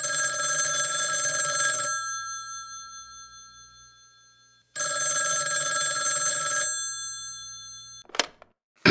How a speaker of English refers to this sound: The 12th of April 1961. John F. Kennedy is president of the USA. He is in bed when the phone rings.